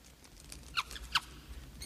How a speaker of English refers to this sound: Now in a cave, a tiny mouse runs across the floor.